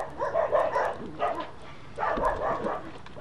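Dogs bark in a few loud, ragged bursts, with a short pause between the first and last flurries, and no one speaks.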